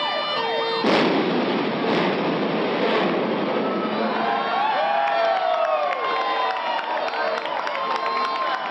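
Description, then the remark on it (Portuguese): A sudden sharp blast as a section of the grandstand of the Castelão stadium is demolished by implosion at 9 a.m. after a countdown, leaving rubble and a 130-metre gap, followed by a long roaring rumble of collapse, with a crowd cheering and sirens wailing in the background. “E a explosão.”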